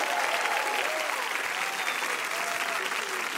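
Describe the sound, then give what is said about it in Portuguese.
Sustained audience applause welcoming the director of the documentary 'Mussum, um filme do Cacildes' and Mussum's eldest son: a dense steady wash of many hands clapping at an even loudness throughout, with faint cheers or voices rising through the crowd noise. “Aplaudam”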